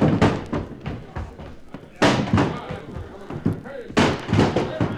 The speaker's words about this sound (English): Okay, one more rush to get that door open.